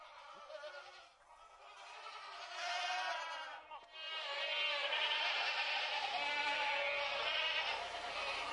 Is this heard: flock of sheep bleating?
yes